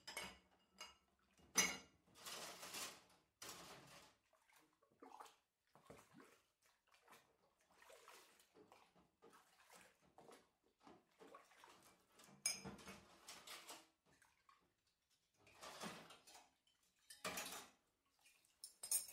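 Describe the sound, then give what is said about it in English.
Plates and cutlery clink and clatter irregularly over running water, like dishes being washed at a sink. The bursts are moderately loud, with short quiet gaps between them and no voices. “You would open it in the morning to put away your clean dishes after washing them.”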